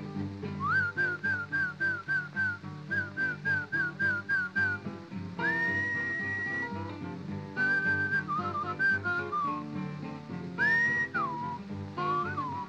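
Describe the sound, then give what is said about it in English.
A person whistles a lilting tune to call a horse, quick repeated chirpy notes giving way to long sustained pitches and slides, loud over a steady instrumental backing, with no talking. “I must whistle for you. Something like this.”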